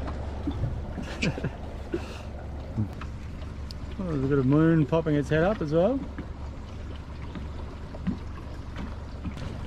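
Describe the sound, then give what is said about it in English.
A small boat's motor drones low and steady as it trolls slowly up a shallow creek between big cliffs, with faint lapping of calm water. A man talks over it briefly. “It's a pretty specky little spot as we're just having a troll in.”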